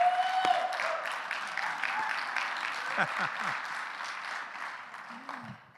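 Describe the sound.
A crowd applauds steadily for several seconds, dense overlapping claps that slowly taper off, with a few faint voices and whoops mixed into the ovation.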